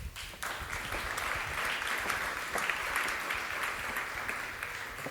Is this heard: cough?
no